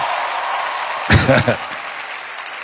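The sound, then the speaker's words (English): An audience in a church claps in a steady, dense wash of applause that fills the room. A short burst of speech breaks through in the middle. “I know you're not clapping because you've never given to someone before.”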